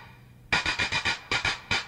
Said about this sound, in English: Could you play each thing on the drum machine? Sure. And this the clap.